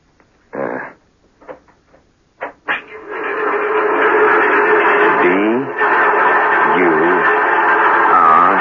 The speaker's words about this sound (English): It's the Mark V tapping code, a sort of trick Morse device so that man could communicate with each other in prisoner of war camps.